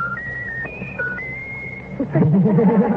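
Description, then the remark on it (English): A pet bird whistles a short tune of clear, high notes stepping between pitches for about two seconds, followed by a louder, warbling voice-like sound. “Is that the bird doing that?”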